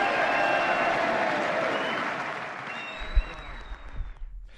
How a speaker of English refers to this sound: And with that, the President of the United States concludes his remarks, a room full of Democrats applauding and cheering. President Obama and Vice President Biden still standing at the podium, applauding back at the room.